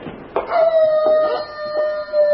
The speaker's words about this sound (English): What's that? A wolf? Only sometimes.